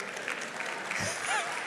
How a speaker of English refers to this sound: Those are all the CNN people clapping right now. But I want you to hear the sound.